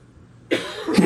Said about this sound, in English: If I have to cough, I do this.